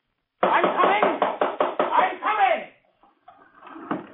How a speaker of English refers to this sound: It can mean only one thing. No friend would knock in such a fashion.